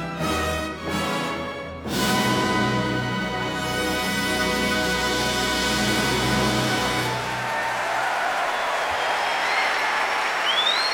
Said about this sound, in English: here at the Proms, and applause from conductor John Wilson and his orchestra.